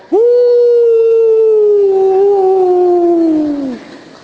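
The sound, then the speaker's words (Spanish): A single long, steady howl, loud, holding one pitch for over three seconds before sagging and cutting off; it sounds like a human voice imitating a coyote. “Coyote, ¿no? Aullando la palabra.”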